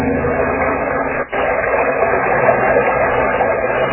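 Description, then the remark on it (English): Engines of seized Japanese trucks being driven into a bay roar in a steady, dense rumble, pausing for a split second before droning on at full strength, with no voices present. “Never mind those patrol boats. Drive these trucks into the bay.”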